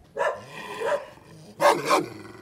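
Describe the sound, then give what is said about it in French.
A large shepherd dog, somewhat like a Pyrenean mountain dog, growls and barks in two rough bursts, each with a double rise, separated by a short pause, with no one talking. “Pauvre chien, il est pour rien, lui, hein.”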